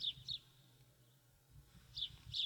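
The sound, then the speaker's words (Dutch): Small birds chirp in short, high bursts outdoors, a pair of calls at the start and another pair near the end, with quiet stillness and a faint low rumble in between. “Men hoort hier de vogels fluiten en af en toe een klok.”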